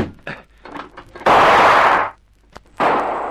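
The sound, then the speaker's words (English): Two sharp revolver shots ring out after a brief muffled stretch, fired by a man from the scrub, one shot coming through a window. The first is a loud, harsh crack with a long rough tail; the second bursts in a second later and holds to the end. “That shot came through. He got a gun, too? Yes, a revolver.”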